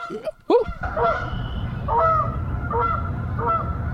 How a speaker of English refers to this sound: Can you hear the geese? Woo!